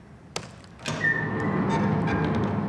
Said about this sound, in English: It's just a door with a squeak. It's a canned sound effect, but just to show what you can do with this, if I zoom into this squeak